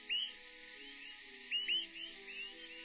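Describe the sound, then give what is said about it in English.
A Swainson's thrush migrating at night gives nocturnal flight calls as it flies: a few short, high, upward-slurred peeps in two brief bursts, against a steady low background hum. “Nocturnal migrants of the same species call as they fly, enabling flockmates to stick together.”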